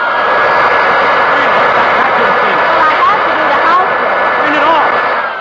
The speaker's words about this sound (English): Oh, no, darling, not the vacuum cleaner.